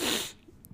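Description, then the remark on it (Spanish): A single sharp, breathy sneeze from a woman bursts out loudly at the start, then cuts off quickly into near silence with only a faint trace of breath afterward. “La tos, los estornudos.”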